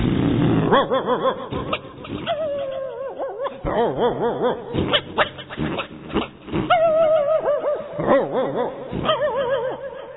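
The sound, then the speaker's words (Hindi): A pack of small and large street dogs gathered in a lane barks, yips and whines all at once at fighting cats, a loud, chaotic chorus of overlapping calls that never lets up, with no one talking. “उन बिल्लियों को लड़ते सुनकर गली के छोटे बड़े कुत्ते इकट्ठे हो जाते हैं और भौंकने लगते हैं।”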